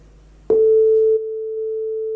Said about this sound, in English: Too much. But that worked, okay? So we created the audio context, we created this oscillator, which creates the sine wave.